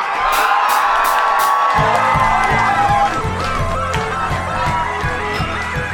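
A loud crowd cheers and whoops continuously for a local unsigned band taking the stage as the first act of the evening at Sound Clash, with scattered shouts and whistles, while a steady low rhythmic thumping starts partway through beneath the noise.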